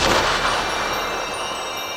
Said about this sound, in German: Als es nur noch als winziger leuchtender Punkt zu erkennen war, sprühte ein buntes Feuerwerk aus dem Raketenschiff und ergoss sich über den nachtblauen Himmel.